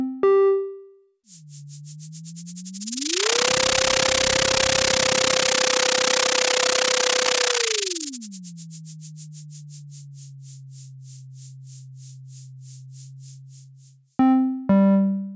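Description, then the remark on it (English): A synthetic sonification of echo sounder data showing a day of zooplankton migration in the ocean: a low electronic tone glides upward as they swim to the surface, holds high beneath a loud wash of hiss while they feed, then slides back down and lingers low in deeper water, framed by brief buzzy blips. “Now let's listen to data collected by the echo sounder that demonstrates a day in the life of zooplankton as they move up and down in the ocean.”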